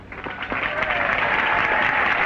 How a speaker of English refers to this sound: I keep thinking that the applause sounds perfunctory. Like, the audience doesn't sound very excited.